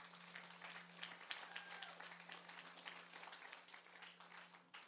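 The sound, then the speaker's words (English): An audience applauds steadily for about five seconds, many hands clapping in a dense, even wash of sound over a faint low hum, with no one speaking. “Let's give a massive round of applause.”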